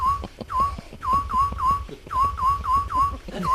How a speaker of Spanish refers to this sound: Cada noche, los veranos, escuchaba esto y se me metió en el cerebro hasta tal punto de que lo tengo. Está muy mal de la cabeza, yo también. Eso, lo tengo grabado. ¡Jolín, qué cruz! Yo oigo ese silbido y digo, ya está aquí. No puedo soportarlo.